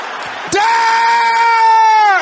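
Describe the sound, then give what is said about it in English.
An audience shouting loudly in prayer, rising into one long, sustained cry held for nearly two seconds, after a brief noisy start. “Can I hear you shouting that loud?”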